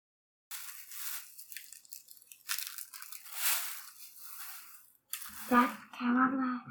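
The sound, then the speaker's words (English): A plastic bag crinkles loudly right by the microphone, sharp crackly rustles coming in irregular bursts for several seconds before a voice briefly speaks. “has a sweet plastic bag right next to the microphone for some reason.”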